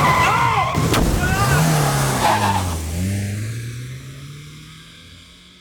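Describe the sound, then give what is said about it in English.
A stolen Ford Escort speeds past, its engine revving hard and dropping in pitch as it goes, with a brief squeal of tires before the roar fades. “Yeah, Ford Escort was stolen from the Sheraton car park a couple of hours ago.”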